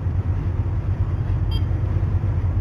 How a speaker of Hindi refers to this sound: अरे उनसे कह दो ट्रैफिक में फंस गया हूँ।